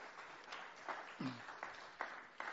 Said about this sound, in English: Let's give her a round of applause there.